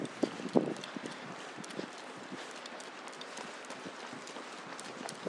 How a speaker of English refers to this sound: Jogger going past quite a pace.